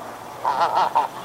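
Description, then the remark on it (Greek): A goose honks several times in quick succession, loud, with harsh nasal calls bunched in a short burst and no voices. “Η χήνα κρόζει δυνατά.”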